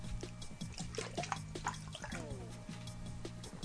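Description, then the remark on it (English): Water runs or pours steadily for a few seconds as someone gets a drink of water, a continuous splashing trickle with a faint low hum beneath it and no talking. “Let me get some water, by the way, here.”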